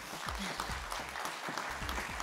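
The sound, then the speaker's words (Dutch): A crowd applauds as a guest is called onto the stage, with dense, steady clapping that stays loud throughout, with a few low thumps and cheers mixed into the continuous clatter of many hands. “Mag ik een heel erg warm applaus voor onze Girlboss van vanavond”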